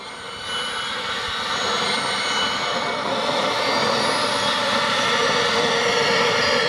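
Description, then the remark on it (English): A harsh, industrial synthesizer drone with a dense, roaring noise texture and faint high whistling tones, fading in quickly and then holding steady and loud with no voices, played by activating channels in Ableton Live with key commands sent from Keyworks on a SoftStep. “For kind of industrial, kind of edgy, kind of tones.”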